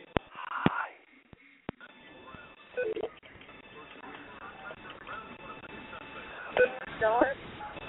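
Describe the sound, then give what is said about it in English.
Telephone keypad tones entering a room number followed by the pound key in a phone menu system: a series of steady, electronic dual-pitched beeps heard over a thin phone line, with sharp clicks and a faint noisy hiss underneath. “to join a room, enter the room number, followed by the pound key.”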